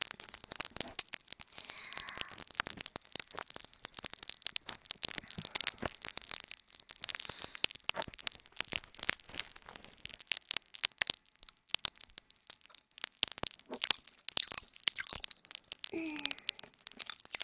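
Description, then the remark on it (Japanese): Popping candy placed in the ears crackles continuously, a dense, irregular fizz of tiny sharp pops and snaps, bright and crisp, with no talking over it. “お耳にパチパチキャンディー入れられて遊ばれてるの。”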